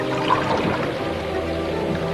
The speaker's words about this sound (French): Le paysage est une grande immensité d'eau où il pleut sans arrêt avec des toits de maison. À part le bruit de l'eau, le silence.